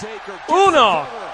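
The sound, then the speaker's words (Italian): A single heavy slam of a wrestler hitting the ring mat from a spinebuster by The Undertaker, who then goes for the pin, lands midway through, half-buried under an excited voice talking over it. “Spinebuster da parte del Deadman che va allo schienamento.”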